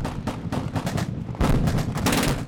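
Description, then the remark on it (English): Loud machine gun fire rattles in rapid, steady bursts at a hillside shooting range, aimed at a papier-mâché duck full of black powder, with a heavier boom partway through and the shots echoing outdoors. No one speaks. “At the beginning of Saturday's afternoon session, all the shooters have their sights set on a papier-mâché duck full of black powder.”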